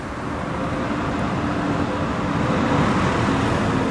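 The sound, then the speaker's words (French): A tram rolls past along a street in Saint-Étienne, in the Loire, France, a steady, dense rumble of low-pitched motor and wheel noise with a faint humming tone, holding an even loudness throughout with no voices. “Il y a le tramway qui passe.”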